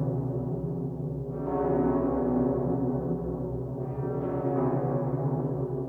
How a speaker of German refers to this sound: Eine Glocke ist der Gemeindediener. Sie ruft Versammlungen, Gottesdienste und die Uhrzeit. Trauungen sagt sie an, Taufen, Sterbefälle.